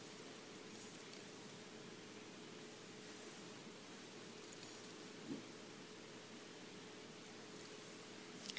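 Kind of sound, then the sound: nature, rain falling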